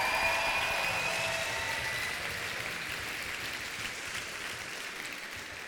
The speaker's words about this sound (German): Ja, Applaus.